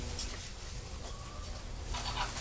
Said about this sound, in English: Can you hear the hens clucking? Yeah, that's a little baby hens.